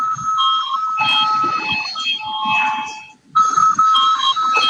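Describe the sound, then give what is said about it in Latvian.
A parliament voting bell rings loudly in a steady, continuous high-pitched electric peal, stops for a brief moment, then starts again, with a low background murmur underneath. It is called for before the deputies vote on proposal number 365. “Lūdzu zvanu.”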